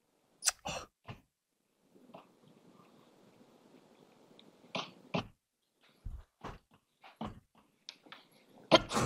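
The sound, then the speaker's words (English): Sharp, explosive sneezes burst out, a quick cluster at the start and several more scattered later, separated by a low, muffled rumble with no talking. “Bless you.”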